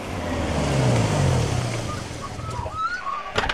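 A warmed-up Land Cruiser engine roars with a deep, steady rumble that swells loudest in the first two seconds, then eases off, with faint high chirps and a sharp knock near the end.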